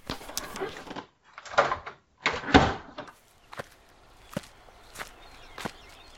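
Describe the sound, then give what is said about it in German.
A door opens and closes with a couple of heavy thuds as a woman leaves an apartment, followed by brisk footsteps walking away at a steady pace, fairly loud, with no voices. “Mit klopfendem Herzen verließ sie die Wohnung.”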